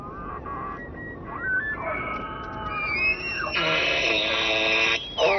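A male elk bugles in Yellowstone in late August: a low groan climbs into a long, shrill, whistling squeal that holds high and wavers before dropping off abruptly, all over a steady background hiss.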